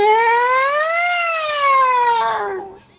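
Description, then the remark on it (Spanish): A single loud siren wail rises in pitch, then slowly falls over about three seconds before cutting off, heard alone with no talking. “La sirena existe, mira, aquí tengo una.”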